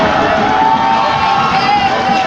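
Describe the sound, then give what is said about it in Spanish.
Sustained crowd applause at a political rally in Los Reyes La Paz, Mexico, for the leaders of the Partido del Trabajo. A dense, steady roar of clapping hands stays loud and even for the whole stretch, with no voice rising above it. “Un aplauso para ellos.”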